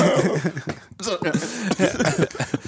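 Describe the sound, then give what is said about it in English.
Several rough coughs break up a stretch of throaty vocal noise and soft chuckling, with short bursts scattered across a couple of seconds. “I hate coughing.”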